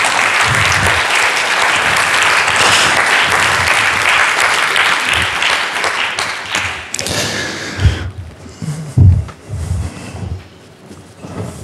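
A room full of people claps steadily for about seven seconds, dense, welcoming a volunteer who comes up to play Peter in a Bible story role-play, then the applause thins out into scattered thumps and shuffling.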